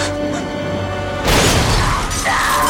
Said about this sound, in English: Fire explodes from a window.